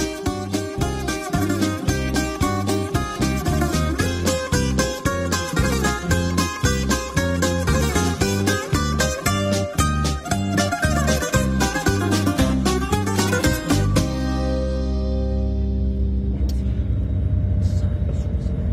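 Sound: bus driving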